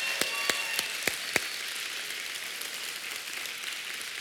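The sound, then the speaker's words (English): A church crowd applauds standing people connected with schools in the community, in a steady, hissing wash of clapping, with five sharp, louder individual claps popping out in quick succession at the start before the applause continues evenly. “Give these people a big hand clap.”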